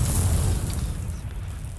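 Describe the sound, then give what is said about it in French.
A loud explosion sound effect for coffee beans bursting out while being ground in a small grinder: a deep, rumbling boom with a hissing, crackling wash on top that dies away slightly over about two seconds, with no voices. “Les grains se découvrent l'âme d'un Vésuve au cœur d'une explosion volcanique caféinée.”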